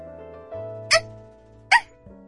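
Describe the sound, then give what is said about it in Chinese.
A person imitates a puppy with two short, high-pitched yips spaced under a second apart, heard clearly over a quiet, steady musical background. “不知不觉之间，竟然真的叫出了小狗一般的叫声。”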